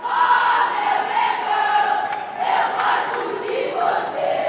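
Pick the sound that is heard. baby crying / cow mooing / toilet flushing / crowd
crowd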